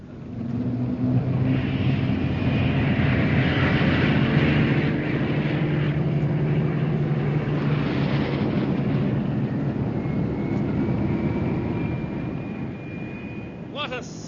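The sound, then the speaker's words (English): A loud, steady roar of propeller aircraft engines droning together, with a deep rumbling hum and a high whine rising over it, holding constant for the whole stretch as a thousand planes take off towards Blackpool. “A thousand planes taking off towards Blackpool.”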